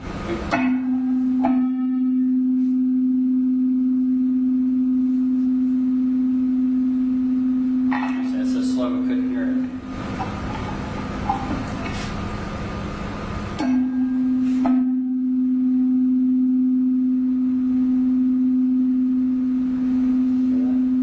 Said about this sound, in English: I can make it happen so that we can hear it better if I make the frequencies a little more close to one another. closer, you'll hear that. We call it beat frequency. You'll hear it, but it'll be even slower.